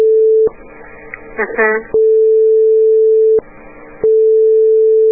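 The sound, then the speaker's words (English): A steady, loud telephone line tone from a regular phone being picked up to dial a number hums throughout, briefly drowned out twice by voices talking over it before the tone continues unchanged. “If you want to be positive that you're not dialing a long distance number, yeah, just pick up your regular phone, mm-hmm, dial.”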